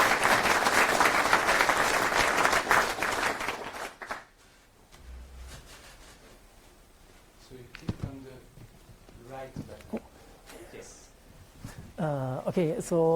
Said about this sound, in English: Let's welcome him with a round of applause.